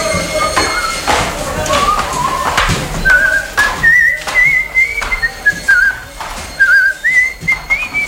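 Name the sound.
person whistling a tune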